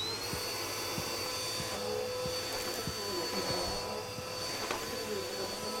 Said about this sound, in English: I'll vacuum it up for you.